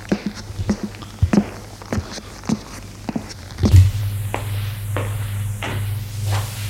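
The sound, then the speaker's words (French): Footsteps thud across a dusty, unwaxed wooden parquet floor in a château corridor with wooden doors, a steady series of dry steps over a low background hum, with no one speaking. “Tout est poussiéreux, avec au sol du parquet non ciré. Les portes sont en bois. Ils suivent le couloir.”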